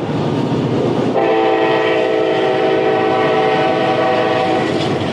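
A train rumbles steadily past while its horn blasts one long, loud, sustained chord for several seconds, standing out clearly above the rolling noise of the cars.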